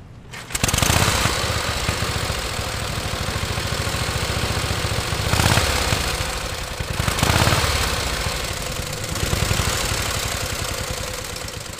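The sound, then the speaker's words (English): A 1918 Harley-Davidson motorcycle engine runs steadily as it is driven around the United States, with a loud, rhythmic chugging putter that swells briefly a couple of times, heard alone with no one talking. “Frenchman Christophe de Goulain is driving a 1918 Harley-Davidson motorcycle around the United States to commemorate the 100th anniversary of the end of World War I.”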